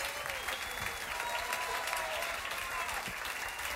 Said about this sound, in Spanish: Familia, muchísimas gracias. Un aplauso para todos estos artistas estelares,